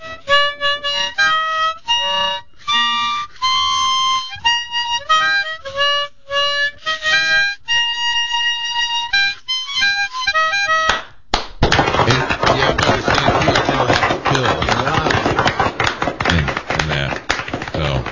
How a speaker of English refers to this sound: Let's hear a little bit of the bluesy birthday thing.